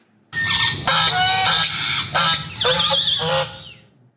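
A parrot lets out a run of loud, harsh, honking squawks, several strained bursts in quick succession, with no one talking.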